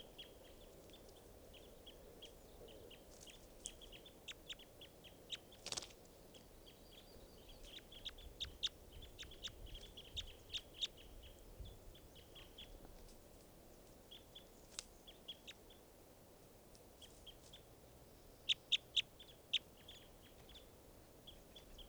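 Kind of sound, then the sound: bird, bird calls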